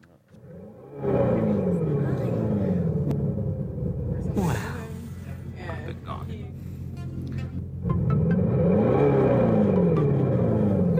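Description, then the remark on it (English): An electric car's own motor noise amplified, not a speaker playing a recording: a loud, continuous engine-like hum that rises and falls in pitch like revving, easing slightly midway before surging strong again for about ten seconds. “It's an amplification of a noise that an electric car, in this case, this electric car already makes.”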